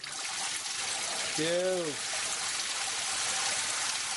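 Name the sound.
water running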